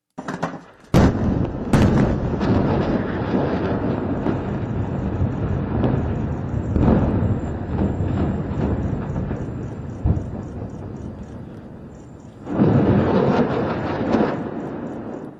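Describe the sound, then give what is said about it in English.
A series of huge, booming explosions in Beirut, Lebanon: two sharp blasts in quick succession, then a long rolling roar punctuated by further thuds, swelling again near the end. No voices are heard. “Meanwhile, fighting continues with strikes in Gaza and a series of huge explosions in Lebanon's capital, Beirut.”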